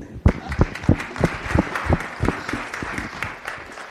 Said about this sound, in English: Can we have another round of applause for them?